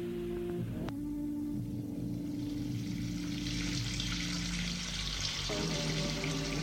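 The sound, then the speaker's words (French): Water runs steadily from a bathroom sink tap in a continuous hiss while trousers and a shirt are washed under it with soap to remove stains, a low humming tone underneath that shifts pitch a few times. No one speaks. “Quitte son pantalon et sa chemise et sous l'eau du lavabo, avec du savon, il essaye d'enlever les taches.”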